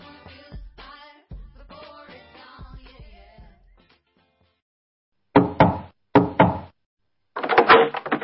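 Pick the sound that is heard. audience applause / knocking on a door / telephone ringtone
knocking on a door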